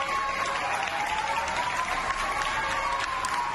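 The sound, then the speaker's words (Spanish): Sustained applause from a crowd at a farewell for a Protección Civil volunteer after 37 years of service, a dense, steady wash of many hands clapping at an even loudness throughout, with a faint tonal hum running underneath and no speech. “Así lo veía en las redes sociales, una despedida, aplausos, abrazos, cariño, respeto a esa profesionalidad.”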